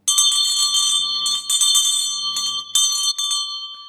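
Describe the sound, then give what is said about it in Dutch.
A hand bell is picked up and rung vigorously to officially close, its bright metallic clangs repeating in quick, uneven strokes for several seconds before the ringing trails off. No voices. “Hij zoekt de bel, hij pakt de bel en daar is hij dan.”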